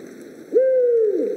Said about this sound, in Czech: Právě posloucháte hlas Víra Velkého, latinsky Bubo Bubo.